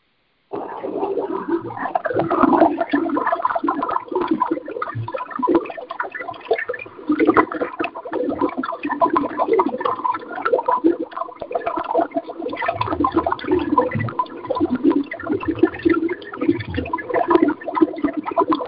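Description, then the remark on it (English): Continuous bubbling and gurgling water, steady, with dense churning textures and occasional deeper gulps; no voices are heard. “And here are your bubbles.”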